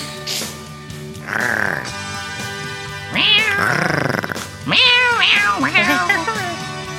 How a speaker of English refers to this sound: Give me some more of that. Meow, meow, meow, meow.